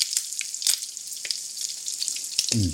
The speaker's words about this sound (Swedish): Det är ju så gott med friterat. Nu puttrar det på här. Och det doftar ljuvligt.